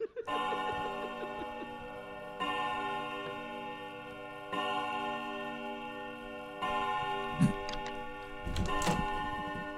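A clock strikes 5 a.m., chiming in four slow, evenly spaced strikes, each resonant tone ringing on into the next, with a few brief knocking sounds near the end and no one talking.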